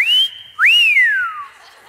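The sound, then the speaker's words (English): A loud, piercing human whistle, blown as loudly as possible from behind to get a woman's attention: a rising note held steady, then a second sharp upward swoop that slides slowly down and fades, with no talking. “And from back here, I just whistle at the loudest, decibel I can.”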